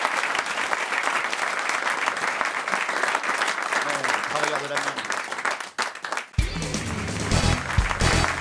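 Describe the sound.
An audience applauds loudly and steadily, a dense wash of clapping that briefly dips before a voice begins talking over the continuing applause near the end.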